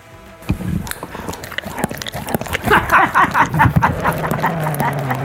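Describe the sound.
A person imitates a dog with a quick run of yappy barks and growly yips, loud, the noises coming in rapid, uneven bursts.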